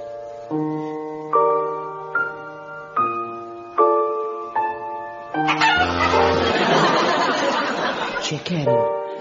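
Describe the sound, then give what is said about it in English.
A simple melody of steady, evenly spaced notes plays, then gives way to a dense, busy passage where four chicken clucks and squawks are hidden and blended into the music, fairly loud. “what seems to be a normal piece of music, but I've hidden 4 chickens in it.”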